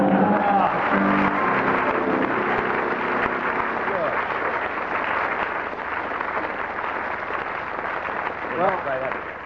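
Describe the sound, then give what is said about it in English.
A crowd laughs, voices rising at the start, while steady applause fills the whole stretch, a dense unbroken clatter of many hands that stays loud to the end. “the audience broke into spontaneous laughter and prolonged applause.”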